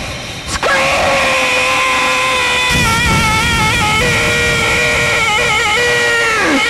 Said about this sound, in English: You'll wish to die. Scream!